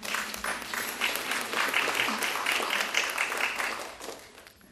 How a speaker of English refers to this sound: We are the ones out there first, who first demonstrated for marriage equality, and now it's a reality. You should all give yourself a round of applause for that.